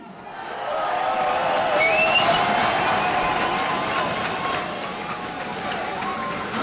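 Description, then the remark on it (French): A dense crowd murmur at an outdoor event, many overlapping voices and chatter with occasional whistles and faint shouts, fairly steady and moderately loud throughout. “Bon, c'est parti avec du coup un petit quart d'heure de prise d'ambiance, on va un dire. Un bain de foule.”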